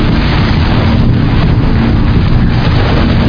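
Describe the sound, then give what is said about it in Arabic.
A steady, loud blast of breath rushes into a microphone for about three seconds, a heavy rumbling whoosh that a voice makes to mimic a horn like a car horn, standing for the trumpet blast of the angel Israfil, with no talking. “هنقول بوق زي الهرن كده في الميكروفون.”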